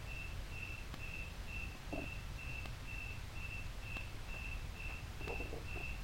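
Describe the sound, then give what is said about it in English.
Crickets chirp in a steady, even rhythm of high, thin pulses repeating about twice a second, over a constant low rumble, with a few faint clicks and brief murmurs in the background. “There's the warmth of the air, there's the sound of the crickets, there's the far-off sound of the water pump.”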